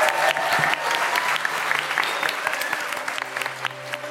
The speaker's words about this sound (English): Give yourselves a massive round of applause.